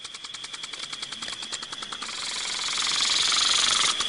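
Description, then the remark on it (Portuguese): A small motor scooter engine buzzes with a rapid, rattling pulse as an elderly woman rides it to a border crossing with a sack on the back, then swells louder and steadier. No one speaks. “Com toda aquela idade, sabe andar de lambreta. E passa todos os dias aqui na fronteira.”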